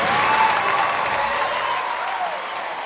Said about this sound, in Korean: 그때 우레와 같은 박수와 함께 카를로타가 무대에 나왔다